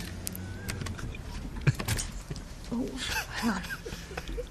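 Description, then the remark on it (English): Keys jangle, followed by sharp metallic clicks and rattles as a lock turns and the front door of a house is worked open, with faint muffled voices in the background. “Okay, hang on, I'm just going to open the door.”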